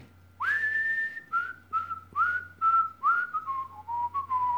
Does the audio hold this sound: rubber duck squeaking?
no